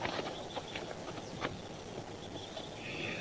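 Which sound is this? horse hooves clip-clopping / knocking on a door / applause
horse hooves clip-clopping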